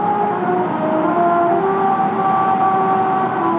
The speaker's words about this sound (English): In South Korea, there's a musical road that drones a haunting rendition of Mary Had a Little Lamb to get drivers' attention if they nod off and start to swerve onto the shoulder.